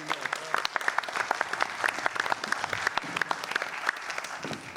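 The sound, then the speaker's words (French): A crowd applauds Anne-Marie Morlier, elected mayor of Moulins, many overlapping hand claps forming a dense, crackling patter at moderate volume that continues throughout without any talking. “Anne-Marie Morlier, donc, eh bien, je crois qu'on peut l'applaudir parce qu'elle a été élue maire de Moulins.”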